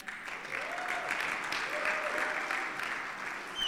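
A church audience applauds steadily, a dense wash of clapping hands that holds an even, moderate level throughout, with a few brief tonal chirps or murmurs rising above the clatter.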